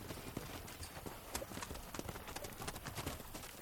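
Horse hooves clip-clop in a steady, brisk rhythm, sharp clattering hits repeating throughout against a faint background hiss, with no voices.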